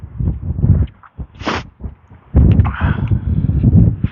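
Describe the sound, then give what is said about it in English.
Gusty wind buffets outdoors on a sunny, blue-sky morning of about 40 degrees in the high plains, in low, rumbling bursts, briefly dropping away before surging back louder and steadier, with a short airy hiss in the middle. “I didn't realize quite how windy it was out here.”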